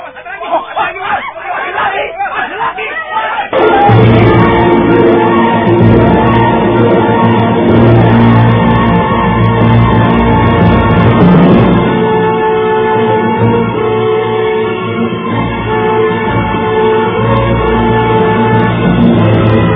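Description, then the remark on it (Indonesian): After a few seconds of a single voice, a loud crowd of villagers of Pacara village erupts into uproar, with many overlapping shouts and agitated chatter forming a dense, sustained roar. “Kerumunan warga desa Pacara akan ribut.”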